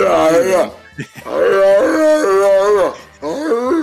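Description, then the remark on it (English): A person imitates a howling dog with several long, wavering vocal howls, rising and falling in pitch, loud, with a brief pause between each. “It's like a dog in heat.”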